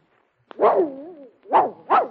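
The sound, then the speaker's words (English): A dog lets out a drawn-out, wavering yowl followed by two short, sharp barks, loud and alone with no talking. “You can talk, all right, but you can't read.”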